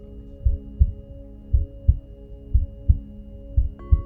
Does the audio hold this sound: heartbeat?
yes